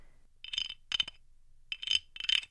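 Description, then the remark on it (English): A carved wooden cricket scraper, a rasp-type instrument that is scraped and carved to look like a cricket, rasps out four short, bright chirping bursts in two pairs, each a quick rattling series of high clicks imitating a cricket's song, with no talking. “This one is meant to sound like a cricket, and it's even carved wood to look like a cricket.”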